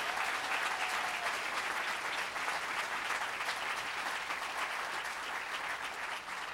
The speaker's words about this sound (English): So let's give them a big round of applause as they come up with their people who are supporting them.